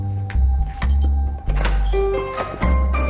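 A hotel suite door off a wide corridor is opened with a swiped key card: several heavy mechanical clunks and a brief motorized whir, with faint steady electronic tones, ending in a final latch thunk.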